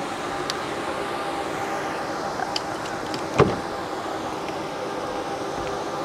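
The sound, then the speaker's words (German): A car's rear suicide door opening: a few faint clicks, then one short, sharp latch clunk midway, over a steady low hum, with no talking. “Mach die Tür auch mal auf, wie es hinten aufgeht.”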